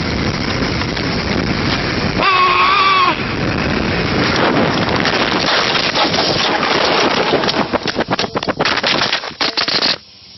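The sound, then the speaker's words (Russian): Loud wind roar from a fast no-handed bike ride down a very dangerous slope, a brief high wavering cry, then a rapid cluster of clattering thumps as the bike crashes and the camera tumbles, ending abruptly. “Ебать, там камера триллион раз прокрутилась. Самое крутое в этом видео после самого падения эта фраза...”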